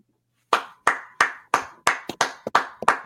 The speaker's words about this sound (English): I am standing and applauding. Do you understand?